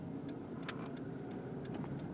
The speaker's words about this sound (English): And that car just sped away, but the cops did not follow.